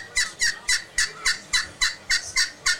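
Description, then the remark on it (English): A turkey call yelps on a Woodhaven Cherry Classic glass friction call, a peg worked on the glass at a convention booth, in a steady, even rhythm, about ten sharp, raspy notes in quick succession, loud and clear with no talking over it. “That's a good sounding call.”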